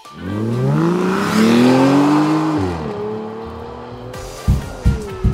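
A convertible car's engine revs up as it pulls away, its pitch climbing through gear changes before settling, followed by a few low thumps. No one speaks.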